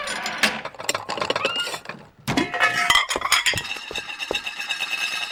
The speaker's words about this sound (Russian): Яичница готова. Надо ее со сковородки переложить на тарелку.